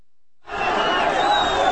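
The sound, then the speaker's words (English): After a brief silence, a loud, dense roar swells in and holds steady as a crowd of about 2,000 anti-government protesters collides with pro-government demonstrators in Sana'a, Yemen, while police try to separate them. Many voices blend into one continuous wash of shouting and noise. “A crowd of about 2,000 protesters collided with a counter-demonstration of supporters of President Ali Abdullah Saleh”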